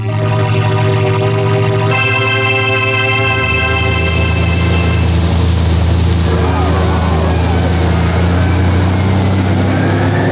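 Police patrol cars and military transport vehicles drive away through deserted neighborhood streets, their engines rumbling loudly and steadily, a deep low drone with harmonic whine that shifts in pitch partway through as they move off, continuous for the whole stretch.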